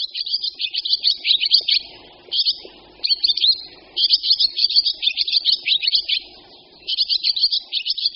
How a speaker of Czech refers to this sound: Tento příjemný žvitařivý zpěv je spoustě lidí dostatečně dobře znám. Ozývá se jim velmi oblíbený ptáček, vlaštovka obecná, kterou zejména na venkově lidé z jara netrpělivě očekávají.